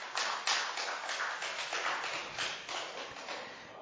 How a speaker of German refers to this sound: Lautstark 2 oder 3 Klatscher gegen leise 4 Klatscher beim Erdogan.